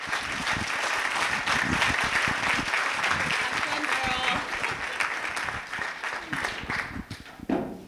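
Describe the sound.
Steady applause from a large audience welcoming a speaker to the stage fills the whole stretch, dense overlapping claps at a constant loud level, with faint voices and a few cheers mixed in.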